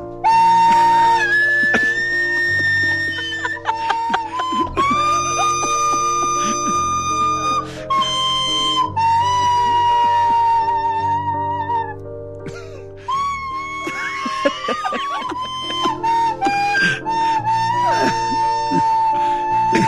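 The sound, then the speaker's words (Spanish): A flute wails out the Ave Maria badly, its shrill, wavering notes screeching and slipping off pitch over a steady backing accompaniment, loud throughout with no talking. “Este es algo, me lo mandaron en el fin de semana y no me podía parar de reír, ya hablando en serio, me lo mandaron en la semana y no me podía parar de reír, de que es que si cuando tocas mal esta flauta se oye básico”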